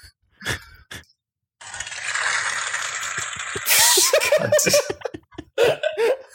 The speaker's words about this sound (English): I know that was supposed to be people clapping, but it just sounded like you were pouring like a bucket of water on the floor. I heard a toilet.